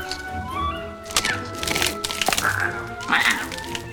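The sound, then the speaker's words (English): An animal gnaws on wooden floorboards by a gap between them, a run of dry, scratchy cracks and splintering crunches in irregular bursts, with faint murmuring in the background. “He gnaws the wood by the space.”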